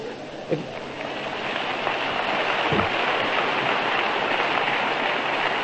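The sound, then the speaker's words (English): A crowd of men clapping at a conference, many hands blending into a dense, steady wash of applause that holds at an even loudness for several seconds with no talk over it. “Look at all those men clapping.”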